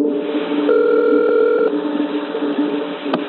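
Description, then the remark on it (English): A steady telephone line tone hums with band-limited phone static at the start of a recorded 911 call to Davidson County 911, a brighter layered tone cutting in from about 0.7 to 1.7 seconds, then a brief click near the end. “And now you actually have this 911 call.”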